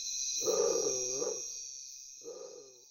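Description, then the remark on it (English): A bird with tiger-striped plumage gives two deep, moaning, growl-like calls that sound much like a big cat, a longer one then a shorter one, over a steady high-pitched insect drone. “Undoubtedly, the name was derived from the plumage having a tiger-striped pattern, but the moment you hear its voice, you can't help think of a large cat.”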